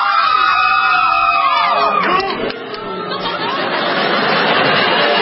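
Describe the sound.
A loud audience cheers and shouts for a band for a few seconds, then the noise dips briefly and swells again into a sustained wave of booing from many voices.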